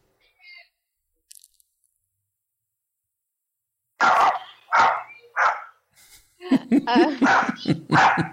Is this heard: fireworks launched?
no